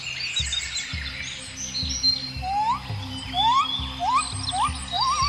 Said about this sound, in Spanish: Las aves revoloteaban sobre los jarales, a las orillas del mar acudían para pescar su comida fresca y luego se volvían a las floridas campiñas donde tenían sus nidos y las inundaban con sus trinos llenos de candor y pureza.